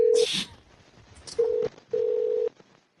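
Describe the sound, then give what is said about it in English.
Telephone tones over a line while calling back a McDonald's restaurant: three steady, loud beeps, a short one, then two longer ones, with a brief burst of hiss near the start and no talking. “We're calling back.”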